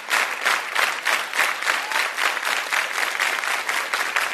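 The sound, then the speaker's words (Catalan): A crowd of fans claps together in a slow, unified rhythm, each loud beat landing at a steady pace, with no talking over it. This is a 'slow handclap': an organized applause by all attendees that starts slowly and gradually speeds up. “els seus seguidors, que ja s'ho sabien, començaven a fer el que se'n diu un Slow Hand Clap, un aplaudiment organitzat entre tots els assistents que comença lentament i va accelerant-se a poc a poc.”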